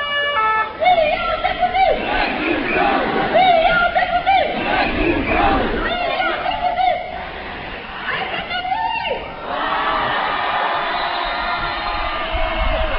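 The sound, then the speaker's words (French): A large protest crowd against the reform chants and shouts loudly and continuously, voices rising in rhythmic waves, with a leading voice on a small truck rousing them over the din. “qui est sur le chariot, sur le petit camion et qui chauffe un peu les gens.”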